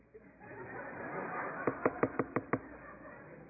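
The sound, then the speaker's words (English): Someone imitates a woodpecker with six quick, evenly spaced knocks in a brisk rhythm, sharp and fairly loud over a low murmur of crowd chatter. “Lions, roar! Whales, woo! Woodpeckers.”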